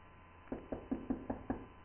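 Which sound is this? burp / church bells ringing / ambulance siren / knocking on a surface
knocking on a surface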